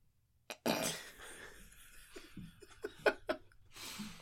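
Loud crinkling of a wrapper, a dense crackly burst followed by scattered sharp crackles and rustles, with a little laughter or breathing mixed in.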